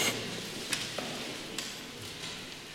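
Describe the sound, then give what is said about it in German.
Many Bible pages rustle and flip at once in a hall as listeners turn to Luke chapter 11, a steady soft papery hiss broken by a few brief crisp flicks, with no voices. “Hört sich richtig gut an, wenn das so im Saal rauscht von Blättern.”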